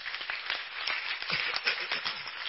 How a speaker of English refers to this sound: Give a big hand clap to the Lord.